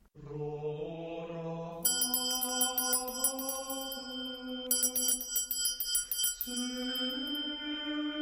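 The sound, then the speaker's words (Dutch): A bright, shimmering bell rings in two bursts over steady, sustained, soft organ chords that shift pitch, all moderately loud, with no voices, in an icy-cold church during a service as the audience begins the Rorate. “Bij het gerinkel van de bel en het zachte orgelspel hief de gelovigen het Rorate, dauwt hemelen dauwt, aan en dan had ik het reeds lekker warm.”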